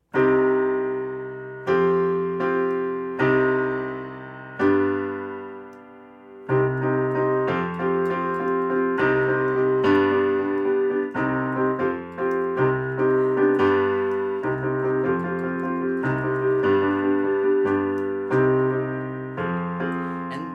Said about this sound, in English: it came out of time that I spent just playing on the piano. So I'm going to kind of take you on a little journey over to my keyboard here. Let's see if you can hear it. So it started with this pattern here.